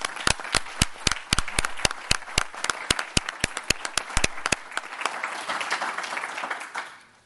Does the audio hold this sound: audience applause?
yes